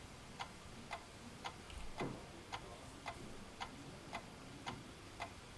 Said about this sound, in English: Now I just have to wait for them to hurry up. For whatever reason, I really like that ticking. I find it relaxing.